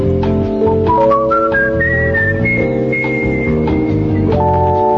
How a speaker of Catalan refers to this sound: Segurament el millor xiulador de la història. Xiulador? Se li hauria de dir així? No sé.